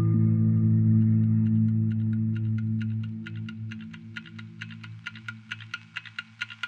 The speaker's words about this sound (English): But what would a cult be without a loudly ticking clock that counts down the seconds towards the inevitable end of the world as we know it?